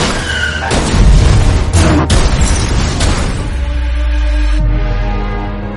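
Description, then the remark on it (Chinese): Several loud blasts go off in quick succession, each a sharp burst followed by a deep rumbling roar that lingers and swells before fading at the end. No voices are heard. “除了这个还有三个一起爆炸。”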